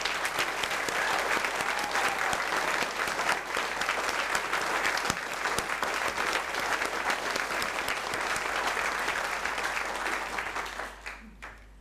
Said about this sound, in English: But so let's clap him, shall we?